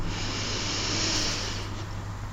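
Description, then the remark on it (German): A long, deep inhalation drawn in steadily during a paced breathing exercise guided by a smartphone app, done sitting calmly at a table; a breathy rush of air swelling in the middle and tapering off, with no talking over it. “gleich geht dann mein Geschnaufe los”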